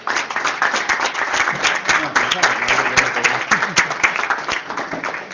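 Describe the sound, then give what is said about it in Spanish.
An audience breaks into steady, dense applause, many hands clapping at a fairly even loudness for about five seconds, with a few voices faintly mixed in beneath the clapping, applauding the author of the book La vida entre paréntesis. “Un aplauso para él.”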